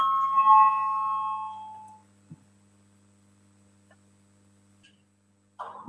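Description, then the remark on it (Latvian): A parliamentary voting bell sounds a single ringing tone that fades out over about two seconds above a steady low electrical hum, rung to call a vote on a proposed amendment, followed by near silence with a few faint clicks. “Lūdzu zvanu, balsosim par pirmo deputāta Ģirģena iesniegto priekšlikumu”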